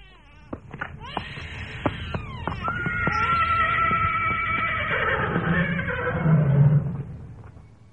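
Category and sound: animal, horses neighing and whinnying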